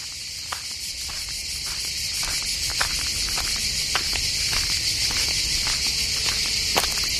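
A dense, steady chorus of chirping crickets fills the air, shrill and continuous, with faint soft ticks or steps tapping through it at a regular pace; no one speaks.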